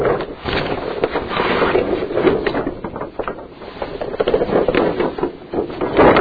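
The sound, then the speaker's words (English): Paper and maps rattle and crinkle without pause for about six seconds as someone quickly searches for something to show, a dense run of dry, scratchy rustles and small crackling bursts at a fairly steady level, with no voices. “Apologize for those that may listen to it and hear the rattling of paper and maps.”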